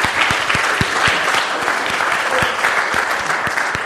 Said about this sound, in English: And I think we should give a hand clap of praise to the Lord, because that is really wonderful.